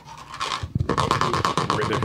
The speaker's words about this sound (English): That's a weird looking percussion thing. It's called a Güero.